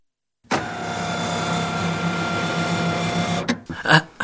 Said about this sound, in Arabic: يا للروعة، لقد اشتغل محرك السيارة.